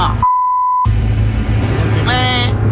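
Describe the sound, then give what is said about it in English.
A single steady electronic buzzer tone sounds for about half a second in a trivia quiz, marking a missed answer, loud and clean, then a rising harmonic warble follows over a persistent low background rumble. “The buzzer.”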